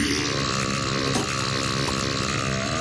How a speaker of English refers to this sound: Which is the burp approval. The giant burp. That is for the worst films.